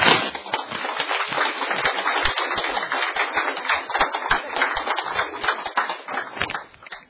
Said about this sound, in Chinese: 啊掌声大家来鼓励一下。